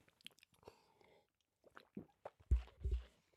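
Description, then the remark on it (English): Wet chewing and mouth sounds of someone chewing mostly on one side, irregular and quiet at first, then a couple of louder, squishy low-pitched bursts near the end. No clear speech. “I made the mistake of chewing it mostly on one side.”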